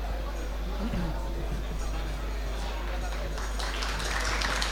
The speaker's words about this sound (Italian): Grazie. Grazie dell'applauso sulla fiducia, perché ancora non ho detto niente.